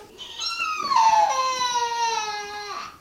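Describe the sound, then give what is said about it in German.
A small girl, new to a childcare group, cries one morning in one long, wailing breath, the pitch sliding slowly downward with a strained, tearful quality before breaking off. No one speaks over it. “Immer wieder gibt es Tränen. So auch an diesem Morgen.”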